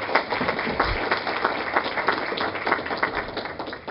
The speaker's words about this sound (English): So please give Sean a round of applause.